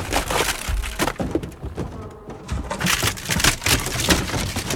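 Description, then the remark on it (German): An elephant named Benjamin crashes through a wooden door into Mr. Tierlieb's office at a zoo, with loud splintering and cracking wood in repeated bursts for several seconds, a brief lull midway before more crunching debris. No one speaks. “Benjamin, 100.000 Mal habe ich dir gesagt, du sollst nicht durch die Tür gehen.”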